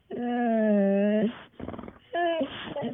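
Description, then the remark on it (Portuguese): A dog whimpers in a long, drawn-out whine, followed by a rough, breathy burst and a shorter rising yip, all fairly loud. “"Eu não", disse o cão.”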